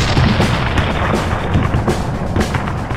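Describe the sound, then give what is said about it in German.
A loud, continuous battle-like din of cannon thunder and musket fire, as used in a monster military music concert in Boston, with deep rumbling booms overlapping with sharper cracks every second or so, with no voices. “Abgestimmte Ambosse, Glocken, Musketenfeuer und Kanonendonner werden wieder ihre geschmacklose Rolle spielen.”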